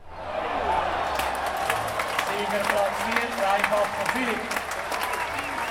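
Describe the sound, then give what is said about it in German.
A large crowd on the grandstand at the Innerschweizer Schwing- und Älplenfest, a Swiss wrestling festival, applauds and cheers steadily as a wrestler lands on his back in the sawdust ring. Dense clapping forms a continuous roar with scattered shouts and voices rising above it throughout. “Und schon wieder jubelt das Publikum auf der Tribüne.”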